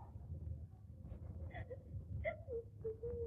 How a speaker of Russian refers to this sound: Что такое? О чем вы плачете, Алели?